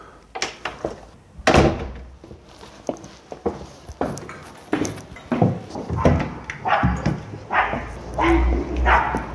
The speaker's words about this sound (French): J'entends le chien de Geneviève, la concierge.